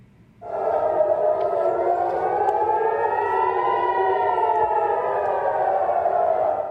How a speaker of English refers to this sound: Air raid sirens rang out in Tel Aviv as Israel intercepted the long-range projectile.